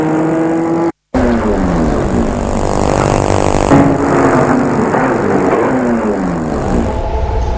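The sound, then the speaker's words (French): A car engine runs loud, its pitch rising and falling as the car drives and slows, then stops in front of an apartment building, with a brief cutout early on and no voices. “La voiture s'est arrêtée.”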